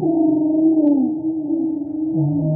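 humpback whale song

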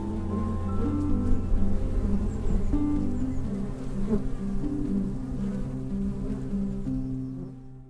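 bees buzzing

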